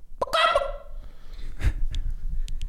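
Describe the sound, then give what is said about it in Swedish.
A person imitates a hen clucking: one loud, warbling squawk, then a few short, scattered clucks and breathy bursts, with no talking. “Jag är bättre på att låta som en kyckling. Okej, hur låter kyckling? Eller en höna.”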